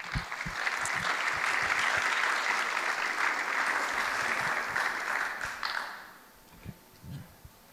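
A crowd breaks into steady, dense applause for two guests of a panel talk, holding for several seconds, then fades out, leaving a few scattered claps and quiet room noise at the end.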